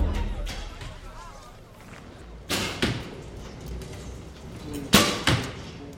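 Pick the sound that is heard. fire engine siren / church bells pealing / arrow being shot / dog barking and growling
arrow being shot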